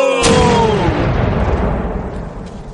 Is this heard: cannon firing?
yes